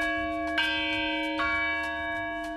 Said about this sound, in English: That's the Whitechapel Bell Foundry, Britain's oldest manufacturer.